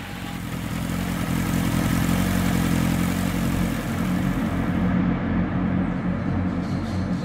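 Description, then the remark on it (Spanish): A motorcycle engine rumbles steadily and loudly, its low throbbing drone holding for several seconds with no speech, while a faint high hiss thins out near the end. “Pasados unos minutos, un hombre en una moto vendría a recogerlas.”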